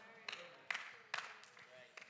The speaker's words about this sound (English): Yeah, I can hear the claps getting less and less. I know. I understand. I wouldn't be clapping too if I was there.